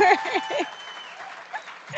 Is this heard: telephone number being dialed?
no